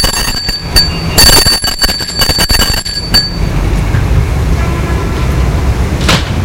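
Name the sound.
doorbell ringing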